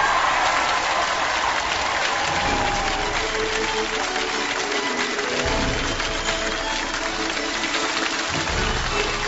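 Steady, dense applause from a large audience welcoming the guest speaker, Gao Song, president of South China University of Technology, fills the whole stretch, loud and continuous with a bright crackling texture and no voices standing out above it.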